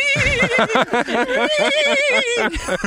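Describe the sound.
A person's voice does a loud, drawn-out horse whinny imitation, a wavering, quivering high-pitched neigh that trembles continuously for about three seconds.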